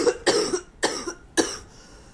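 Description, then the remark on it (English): Three harsh, loud coughs come in quick succession, with brief pauses between bursts and no talking. “I put a cough drop in, so hopefully that'll help.”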